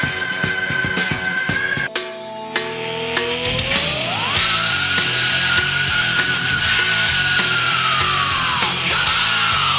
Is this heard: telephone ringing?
no